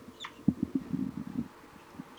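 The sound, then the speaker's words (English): A single short, high chirp of an adult bird's flight call at the start, faint, followed by soft low thumps and a brief thin note near the end. “It's 4-3 giving a flight call.”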